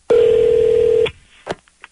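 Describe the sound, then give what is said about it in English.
A loud, steady electronic telephone tone sounds for about a second as a prank call begins, then cuts off, followed by quiet and a brief soft click on the line. “All right, here it is. It's our prank call,”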